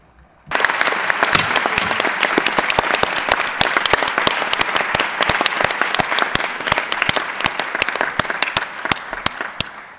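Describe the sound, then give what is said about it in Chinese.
Meeting delegates break into steady applause approving the nomination of Ecuador's Ambassador Marcel Vasquez Bermudez as chair of the 76th Executive Committee bureau, starting abruptly and continuing as a dense, even patter of many hands clapping, with no voices heard over it. “我认为 Marcel Vasquez Bermudez 厄瓜多尔大使就被推举为我们76届执委会主席团的主席，通过鼓掌通过。”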